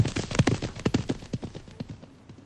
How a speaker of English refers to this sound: Quick, up on my horse. Now let us ride!